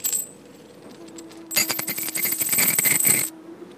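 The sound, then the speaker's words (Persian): Coins jingle and clink together in a bright, metallic burst lasting under two seconds, fairly loud, with a quiet background before and after. “ولی آخرش صدایی برای ما نمیمونه جز صدای سکه، جیرینگ جیرینگ.”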